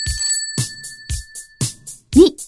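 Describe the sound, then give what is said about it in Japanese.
A bicycle bell illustrating the word "bike" in a Japanese-English vocabulary lesson rings out in a quick series of bright, metallic dings, about two per second, with a sustained shimmering ring hanging between strikes and soft thumps underneath. “バイク、 自転車。”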